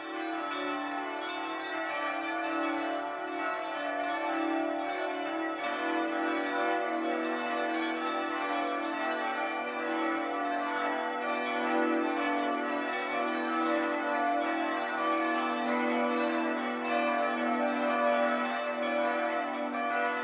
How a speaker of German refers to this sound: Es ist 12 Uhr. Das Mittagsläuten kommt heute aus St. Lorenz in Nürnberg.